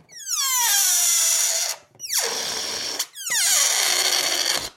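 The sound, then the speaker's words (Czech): Air squeals out of an inflated balloon in three loud, sputtering bursts, each a reedy, buzzing whine whose pitch slides steeply downward, with brief gaps between them. “Nafouknout balónek to není jen tak. Chce to výdrž a silné plíce.”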